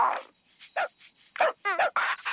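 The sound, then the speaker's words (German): A dog gives a quick series of short yips and barks, about five bursts with brief gaps, one rising into a whiny, wavering yelp near the end. “Hey, hast du das gehört? Der Hund lädt dich in sein Körbchen ein.”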